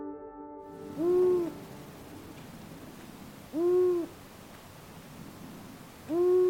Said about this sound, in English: Now we move on to the long-eared owl.